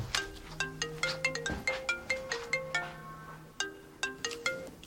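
A mobile phone ringtone plays a bright, steady, repeating melody of quick plucked notes, with no voices over it.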